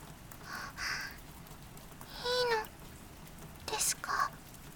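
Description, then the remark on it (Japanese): Steady, soft rain hisses evenly throughout, broken by three short, higher-pitched calls that sound like meows rising above the patter. “雨が止む寸前までそばにいろって。”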